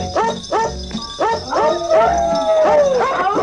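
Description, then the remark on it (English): Dogs bark in a quick, pitched rhythm that traces a melody, with a drawn-out howl rising through the middle, all loud, set against a steady musical backing. “All right, here comes the singing dogs.”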